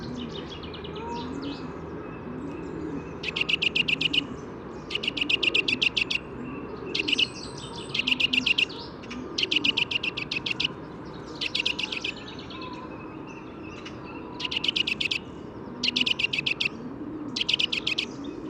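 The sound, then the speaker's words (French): A bird repeats its contact call in quick bursts of sharp, high notes, one cluster every second or so, clear over a low background rumble. “Voilà, elle a changé à nouveau de répertoire, elle est passée au cri, à cri de contact.”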